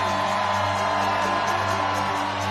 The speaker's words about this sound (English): And if you guys feel that, let me hear you fucking scream!